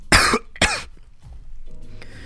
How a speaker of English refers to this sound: He coughs.